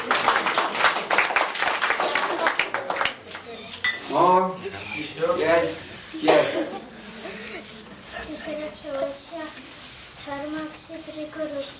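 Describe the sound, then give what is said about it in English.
Children clap their hands in a quick, uneven burst of sharp smacks, which then gives way to lively child voices and chatter as the clapping thins out. “Clap, clap.”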